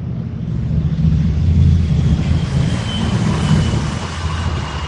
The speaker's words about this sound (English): And of course, you hear in the background, those are military helicopters, so you can see I got my buddies behind me.